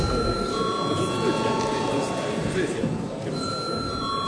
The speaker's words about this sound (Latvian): Paldies, lūdzu zvanu.